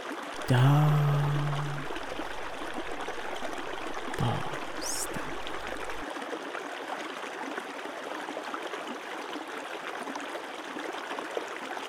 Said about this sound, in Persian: اجازه بده صدای این رودخانه ذهن و قلبت رو نوازش کنه.